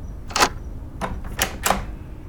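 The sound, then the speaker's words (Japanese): A key works the lock of a locked front door as someone arrives home: four sharp metallic clicks and rattles spread over about two seconds, with no voices. “あれ？鍵かかってる。誰もいないのかな。”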